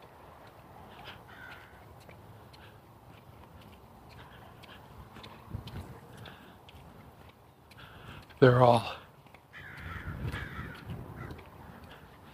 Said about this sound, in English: It looks like there's a hawk or maybe an owl up in the top of a tree. The crows are all perched around it.